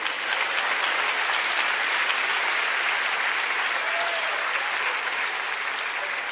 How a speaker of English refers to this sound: Bless you. Give her a hand.